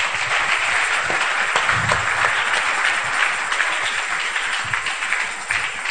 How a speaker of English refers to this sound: So if you don't walk in the spirit, you can clap unto the Lord.